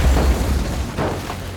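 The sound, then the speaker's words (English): A small plane flown by pilot Seal veers off a grassy runway on takeoff and crashes with a loud, deep rumbling boom that holds steady for over a second, broken by a couple of harsher crunching bursts near the end. No voices are heard. “The plane veers off the runway and crashes.”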